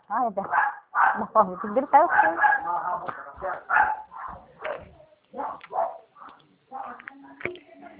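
dogs barking

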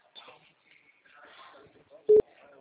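telephone call ringing unanswered

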